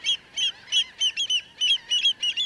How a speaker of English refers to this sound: The shallow waters and wide mudflats before us this day are alive with thousands of gulls, terns, and shorebirds. We're at the Bolivar Flats Shorebird Sanctuary on the tip of the Bolivar Peninsula opposite Galveston, Texas.